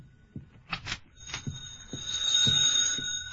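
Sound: telephone ringing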